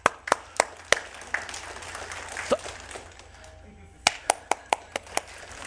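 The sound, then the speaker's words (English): An audience claps hands as practice after Psalm 47:1 is read, in two short bursts, a quick run of four sharp claps, then after a lull a steadier string of six, with a soft murmur of people in the background. “Psalm 47:1 says, clap your hands. Everyone just try that.”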